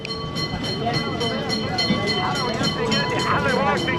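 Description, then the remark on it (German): A tram of small, round cars rattles over cobblestones in the crowded station district of Alexandria in a steady, rapid clatter while its bell rings with sustained metallic tones, fairly loud, with indistinct voices murmuring in the background. “Klingelnd rattern Straßenbahnen über Kopfsteinpflaster.”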